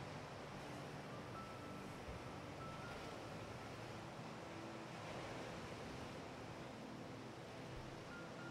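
Distant ocean waves wash steadily against rocks, a soft, continuous roar of surf with no distinct individual crashes, heard alone and fairly quiet throughout.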